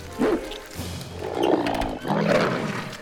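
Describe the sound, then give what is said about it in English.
A barking homework monster's growling bark, loud and rough, in two or three drawn-out bursts with a deep roaring edge and no speech. “Now it's a barking homework monster.”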